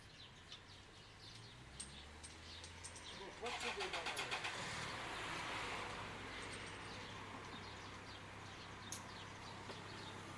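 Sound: cars passing by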